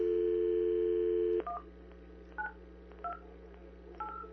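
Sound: telephone number being dialed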